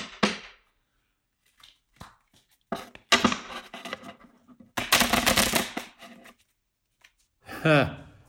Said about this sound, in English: I have my cards right here, my fabulous Ricky J playing cards, right? I have a deck of cards. Okay, let me show you.